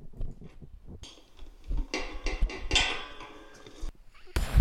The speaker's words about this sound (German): Ist das eine Tür? Ja, genau. Das ist die Tür zum Parkplatz.